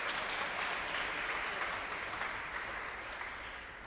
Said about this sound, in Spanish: Tiene la mano roja, aplaudir duele.